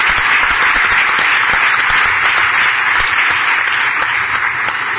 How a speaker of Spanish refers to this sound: Un fuerte aplauso para estos finalistas.